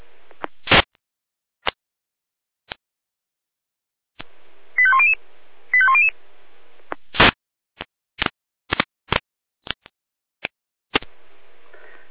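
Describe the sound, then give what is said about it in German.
Two short bursts of rapid, stepped electronic alarm call tones from the Jena fire brigade control centre (Leitstelle Jena), alerting to a building fire at Hintergasse 27 in Bürgel. They are set among sharp static clicks and squelch pops on a quiet radio channel. No one speaks. “Jena, Alarmruf.”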